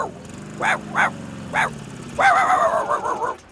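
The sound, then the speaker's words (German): A small dog at a dog show gives three short, sharp yips in quick succession, then breaks into a longer run of high, whiny barking and yelping, fairly loud. “Das Parfüm kann entscheidend sein für meinen Hund.”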